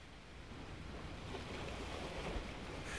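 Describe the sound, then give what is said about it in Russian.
Continuous roar of sea surf foaming against a steep shore, with gusty wind blowing across the microphone. Steady and fairly loud throughout, no voices. “Был ветер, и волны с шумом пенились у крутого берега.”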